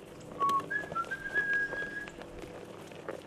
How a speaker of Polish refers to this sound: No, słyszałam, jak pan gwiżdży sobie i podśpiewuje.